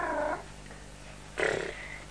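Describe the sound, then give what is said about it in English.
A cat named Purdy lets out two short meows, the first brief and the second a bit louder and drawn out, separated by about a second of quiet. “Purdy doesn't talk English, unfortunately. Yes, he does. He just goes, meow.”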